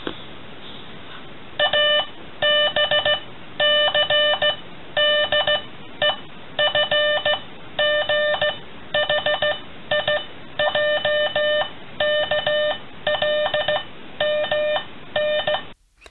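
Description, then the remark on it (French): Morse code beeps over a radio, the form of the first radio communication: a steady, buzzy mid-pitched tone keyed on and off in short and long pulses, sounding loudly with no voices for about sixteen seconds. “La première communication radio était en morse. Le morse est un langage en son et lumière.”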